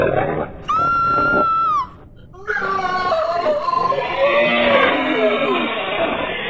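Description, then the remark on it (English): A sustained high-pitched squeal is followed by a loud, continuous chorus of salt hogs grunting and roaring, swelling as if the herd is approaching. “Can you hear them? The salt hogs are coming!”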